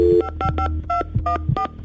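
A rapid series of telephone keypad tones as a phone call is dialed, about eight short dual-pitched beeps in quick succession, loud with a low hum underneath and no talking.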